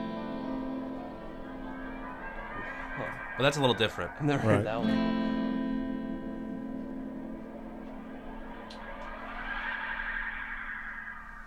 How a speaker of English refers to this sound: Well, and also we were saying on that track, you can hear the space echo right there in the top. Yeah. You want to demo that I'll demo it whoosh again.